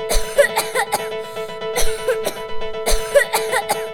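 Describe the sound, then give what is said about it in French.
A person coughs repeatedly in three short clusters of sharp bursts, with a steady faint tone humming underneath. No one speaks. “C'est quelqu'un qui tousse.”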